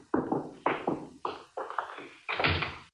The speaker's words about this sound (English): And on the Mike Costella door slam. We are going to take a break here on Dragnet from August 31st, 1950. Show called The Big Check, starring Jack Webb.